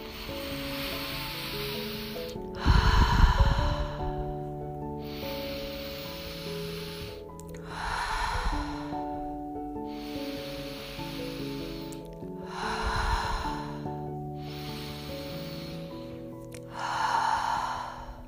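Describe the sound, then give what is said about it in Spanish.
A cycle of four slow, deep breaths taken through the nose, or through the nose and mouth, to relax. Each is a long airy inhale followed by a softer exhale, repeating in a steady rhythm over a quiet, sustained musical drone with no talking. “Vamos a empezar por relajar nuestra mente con un ciclo de 4 respiraciones profundas por la nariz o por la nariz y por la boca.”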